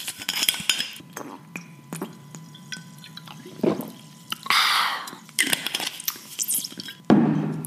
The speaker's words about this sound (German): Apropos, Mädels, kleine Trinkpause.